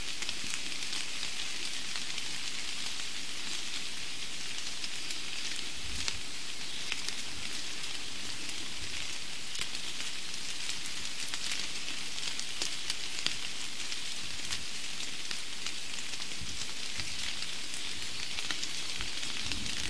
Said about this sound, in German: Und so klingen Regentropfen auf Buche.